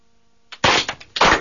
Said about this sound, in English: And if you heard that, it was a clapping of the hands and a shouting with the voice of triumph.